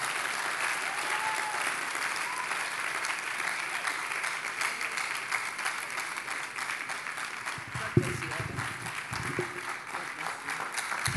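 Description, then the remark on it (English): Sustained applause from a sizable audience as a speaker takes his seat, a dense steady patter of many hands clapping, with a few sharper claps standing out near the end. “We want to give a better round of applause, even as Elder takes his seat.”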